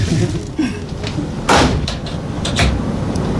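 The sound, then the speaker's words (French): A cupboard door is shut with a solid knock, followed by a couple more wooden clunks and rattles over a steady low background rumble. “D'accord, bon, on peut refermer ton placard à la route.”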